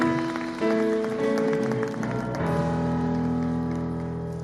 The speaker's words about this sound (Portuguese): Podeis assentar e aplauda ao Senhor.